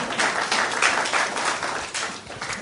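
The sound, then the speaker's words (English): A seminar audience applauds steadily for a few seconds, a dense, bright crackle of many hands clapping at once with no voices over it, holding fairly even in loudness throughout. “So you should clap once again.”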